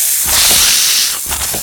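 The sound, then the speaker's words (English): A snake hisses sharply and loudly in two quick bursts, a long breathy hiss followed by a shorter one, with no voices. “Snake attacks.”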